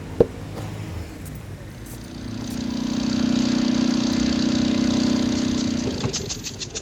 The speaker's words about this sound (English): My motorbike is much better. This is the fastest bike in Dragonville.